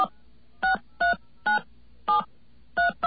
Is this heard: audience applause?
no